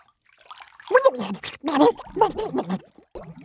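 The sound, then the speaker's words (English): A voice imitates Flamingo gurgling and guzzling water as her cardboard raft sinks in a lake, with a quick run of wet, bubbling, throaty bursts for about three seconds, fairly loud. “Flamingo gurgled and guzzled.”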